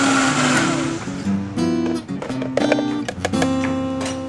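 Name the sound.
blender running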